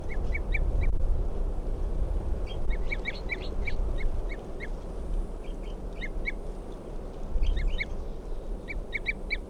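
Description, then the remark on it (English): A wild bird's tooping call, responding to decoys: short, high piping notes in quick bursts of two to four, repeating at irregular intervals over a steady low rumble, with no voices. “It's a wild bird tooping there.”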